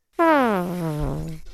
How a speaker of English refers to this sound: Who burped?